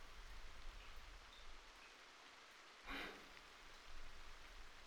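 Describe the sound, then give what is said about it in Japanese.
Rainwater drips and patters steadily from a leaking roof, with one sharper, louder splash partway through. The wash of falling water is continuous, with no voices. “雨漏りの音につい聞き惚れちゃいました。”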